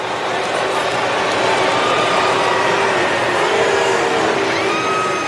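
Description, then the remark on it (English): A large stadium crowd boos and jeers steadily at a bad umpire's call against the home team, a dense, loud wash of voices with drawn-out, wavering groans rising above it for several seconds without letup. “They're, you know, the crowd is just getting tired of these calls, and they're going to let you know about it.”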